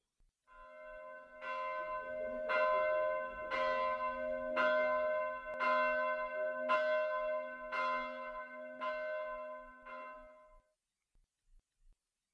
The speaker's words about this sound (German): Nach kurzem Schlaf in einer stillen Zelle weckt unseren Freund ein dumpfer Glockenton.